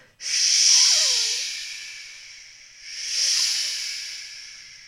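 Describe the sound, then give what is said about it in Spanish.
Breathy whistling mimics the wind at the opening of a choral song, in two swelling gusts, a loud airy hiss with faint pitch glides sliding down inside it, the second gust softer and fading out. No one speaks. “Iniciamos esta canción con un silbido que se asemeja al del viento.”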